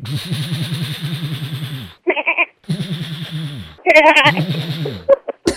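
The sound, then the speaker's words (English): Voices imitate a goat with a machine gun shooting into the air, alternating between wavering goat bleats and rapid staccato machine-gun bursts, loud with brief pauses between sounds. “It's just a goat with a machine gun.”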